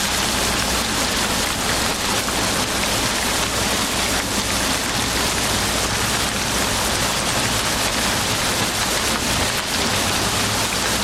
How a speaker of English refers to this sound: In the matter of a single night, while the storm rages in its fury, the tempest and the thunder of the furious elements in conflict.